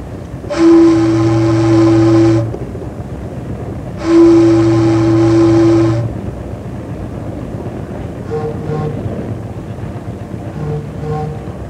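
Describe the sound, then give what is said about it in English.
A riverboat whistle sounds two long, loud blasts, each a steady low, reedy tone lasting about two seconds, followed by a few fainter, shorter whistle tones over a constant rumbling background. The blasts signal an oncoming boat pushing a tow of barges on the river. “Looks like someone's coming against you with some barges. Hey, he sure is. Let's give him a couple of blasts.”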